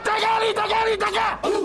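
A crowd of baseball fans in Myanmar chants a cheer in unison from the stands, loud sustained shouted syllables with a short pause before the chant resumes.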